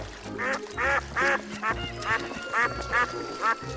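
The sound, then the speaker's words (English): A duck quacks repeatedly in a steady series of about eight nasal, harmonic calls, clear, with a low background rumble underneath, at a farm pond. “There are all sorts of fish in here, plus ducks and other aquatic animals.”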